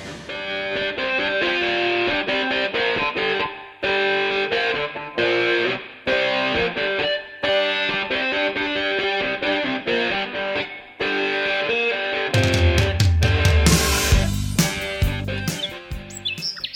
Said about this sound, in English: All right, well, I hear the music coming up, so we're going to take a little break and be right back with the Gardener's Bench.